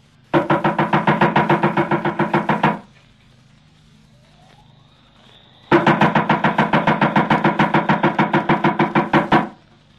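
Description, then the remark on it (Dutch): Two long bursts of rapid, steady knocking on a heavy wooden door that looks more like a castle door than a normal house door, at a house that is almost a castle; loud, with a few seconds of quiet between them and no voices. “Waarom ze hier zo'n zware deur hebben.”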